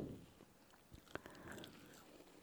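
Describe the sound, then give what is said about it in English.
A crisp bite into a Honeycrisp apple in Michigan in the fall, with a sharp crunch, followed by wet chewing and smaller crunches, with no talking. “Hear that crunch.”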